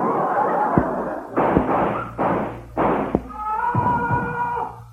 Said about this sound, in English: What was that? Somebody's been shot just outside the door. Let's see who it is.